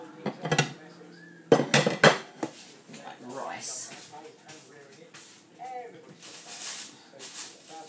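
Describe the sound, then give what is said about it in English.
Ceramic plates and a bowl clatter and clink as they are set down and shifted in a kitchen cupboard, with a few sharp knocks followed by softer scraping, while a person talks. “Well, there's their plates, there's my bowl.”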